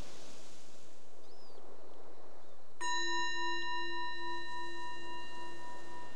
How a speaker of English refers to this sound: The bell is the invitation to bring the awareness more back to the surface and maybe just reflect on what your experience was